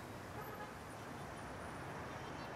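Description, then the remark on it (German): Heavy traffic on a 20-lane road in São Paulo, Brazil, rushes past on a spring weekday morning in a continuous, dense roar, steady and unbroken throughout with no voices. “Unablässig scheint er zu zittern von den Vibrationen des anbrandenden Verkehrs.”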